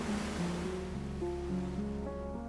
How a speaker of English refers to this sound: Now and then, a thin line of water reaches the shore and slips gently around your feet before pulling back into the sea.